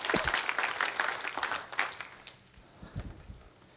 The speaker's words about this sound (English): Give him a good clap offering one more time.